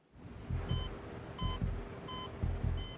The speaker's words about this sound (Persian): دستگاه نشون میده ضربانش داره تغییر میکنه، فشار خونش داره میره بالا، حرارت بدنش هم همینطور.